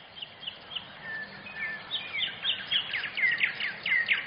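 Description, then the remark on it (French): Several birds chirp and sing in quick, overlapping bursts of high-pitched notes, growing busier toward the end over a soft outdoor hiss, with no voices. “Il habitait dans un arbre entouré de sa famille et de ses amis les oiseaux.”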